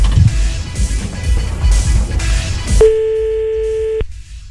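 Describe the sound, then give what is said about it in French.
A steady electronic telephone line tone sounds for about a second, clear, as someone calls back after a dropped phone call, following a stretch of noisy rumble like a moving car's interior. “Vas-y, rappelle.”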